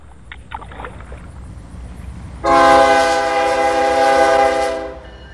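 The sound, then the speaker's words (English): A few soft splashes of a paddle dipping into water, then a loud, sustained train horn blares for a couple of seconds before cutting off, with a low rumble underneath. “Ash wood is used in baseball bats, boat paddles, railroad ties, and other products”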